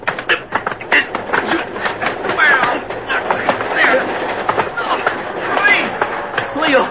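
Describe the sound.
A moving train clatters steadily on the rails, a dense rumbling noise broken by quick irregular clacks, with muffled voices faintly mixed in underneath.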